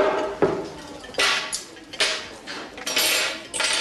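A waitress throws cutlery and a bottle of vinegar down onto a table, a series of sharp, bright metallic and glassy impacts in quick succession, fairly loud, with no voices.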